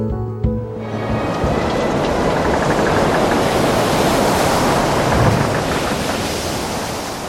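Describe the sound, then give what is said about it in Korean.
Loud, churning ocean surf roars continuously with a windy, rushing hiss during a storm at sea, waves crashing heavily, with a brief low thump near the start and no voices. “그렇게 297일이 되는 날 폭풍이 불어왔어요. 사나운 폭풍은 에드워드를 바닷속 여기저기에 내동댕이 쳐댔어요.”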